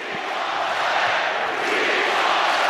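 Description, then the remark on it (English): A large arena crowd at a basketball game chants together, a loud, dense roar of many voices that holds steady throughout with no single speaker standing out. “Crowd is chanting, "We want Clay."”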